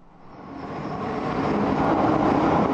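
A subway train in Buenos Aires, Argentina, rumbles and roars, its broad mechanical noise steadily growing louder over a few seconds as if approaching or picking up speed, with no voices.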